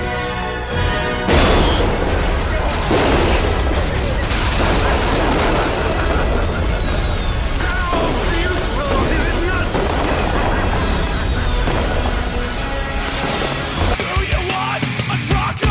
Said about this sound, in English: The anger over the poorly managed dump prompted the motherfucking resistance to block access to it and defended themselves against the attacks by the pigs with a barrage of fireworks.